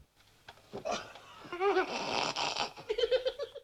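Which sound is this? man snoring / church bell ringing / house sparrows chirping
man snoring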